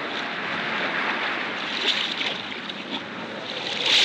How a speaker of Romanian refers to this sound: Cânta inima în mine de setea necunoscutului, când s-a ridicat ancora și pânzele s-au umflat în vânt prielnic. Am navigat cu pânzele.